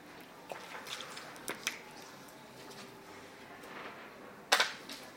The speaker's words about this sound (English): Okay. Let me have a swig of water.